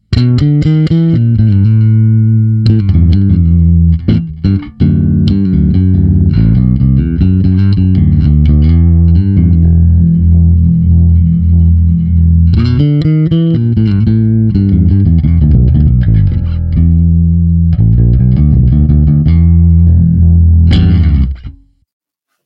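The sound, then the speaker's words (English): A sustained electric guitar plays chords and riffs with a bright, fizzy, amp-like distorted tone from excited treble, with a compressor added as a finishing touch, evenly compressed and loud throughout, with a few brief gaps before ringing out at the end. “The treble is getting that sort of fizzy, ampeggy sound going on there.”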